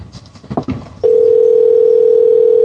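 A steady, loud telephone dial tone hums continuously as a call is being placed, after about a second of faint, muffled handling noise, holding one unbroken pitch to the end.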